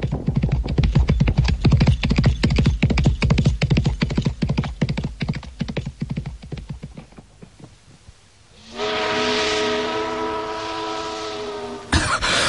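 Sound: horses galloping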